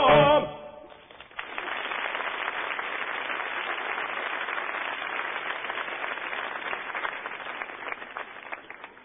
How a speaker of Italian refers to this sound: Eh sì, voi applaudite, ma la mia è una tristissima storia.